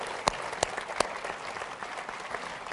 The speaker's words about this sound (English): CEO of the Ford Motor Company, spectacular guy, did a great job of turning around Ford and did not take 1 cent of our United States government taxpayer dollars. So big round of applause for him. Big guy.